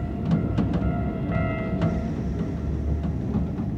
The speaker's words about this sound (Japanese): チンチン電車の愛称で親しまれてきた都電も今は1系統を残すのみ。